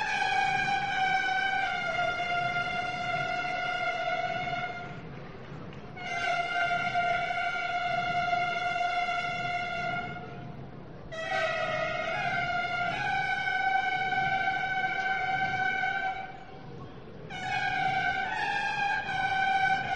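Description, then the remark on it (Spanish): Boat horns blare in long, sustained blasts of several seconds each, several pitches overlapping, with short breaks between bursts, sounded as a boat is manoeuvred into place to be blessed by a bishop. Loud and steady, no talking. “Y la gente haciendo un aplauso y van a tocar la bocina.”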